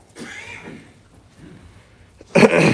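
During a church sermon, a sharp, loud cough bursts out near the end, following a few seconds of quieter, indistinct vocal sounds.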